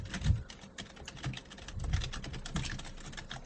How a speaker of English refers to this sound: Typing?